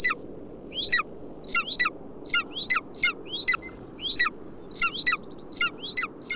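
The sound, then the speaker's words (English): A female cliff-nesting bird calls repeatedly in quick, sharp notes, roughly two per second, fairly loud, over a steady low rumble of strong wind. “It's a female whose partner must not be far away.”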